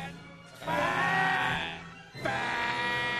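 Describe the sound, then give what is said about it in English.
A novelty alarm sound effect, called the obesity achievement announcement device and formerly a fat alarm: two loud, buzzy, bleating blasts, each lasting over a second, separated by a brief pause, with a rich nasal harmonic tone. “Now, back in the day, that was a fat alarm.”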